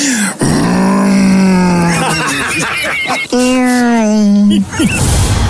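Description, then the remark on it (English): A voice imitates car sounds, a nominee for Best Achievement in Sound in a fans' choice awards: two long, buzzing, low-pitched drones like a revving engine, each held for over a second with wavering pitch, separated by a brief break, loud and steady. “Car sounds.”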